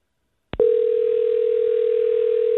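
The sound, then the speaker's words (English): A brief click, then a steady, unbroken telephone dial tone that holds at one mid pitch for about two seconds, the start of placing a phone call to a man at work. No voices. “Let's go ahead and try to give him a call and let him know the news, okay?”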